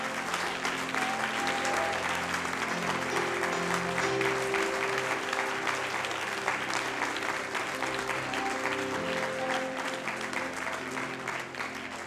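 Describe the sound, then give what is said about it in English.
A large crowd claps loudly and steadily during a church service, as a signal of faith, a dense wash of hand claps for several seconds with some tonal background underneath and no one speaking. “We might as well just clap just one more time as loud as we have all service.”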